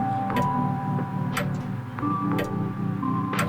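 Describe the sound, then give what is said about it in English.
A clock downstairs chimes the quarter hour with evenly spaced strikes about once a second, each followed by a lingering ringing tone, heard clearly with no voices. “The clock downstairs chimes out the quarter hour, and once again I'm wide awake.”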